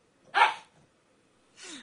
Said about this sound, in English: I'm going to kill this dog. I might, the Humane Society might come get me. Stop barking. Oh my God. Hey, be quiet.